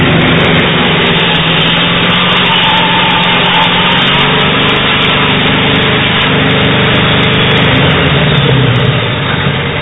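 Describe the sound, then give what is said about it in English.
A sawmill engine runs loud and steady throughout, a continuous mechanical drone with a low rumbling hum and no voices over it, as the mill cuts a log. “There's probably sawmilling 100 years ago was just about the same thing as this, except that would have been a steam engine, an old power engine.”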